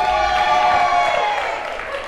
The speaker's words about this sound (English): And we love sluts here at Supper Club, don't we? Let's give a cheer for sluts!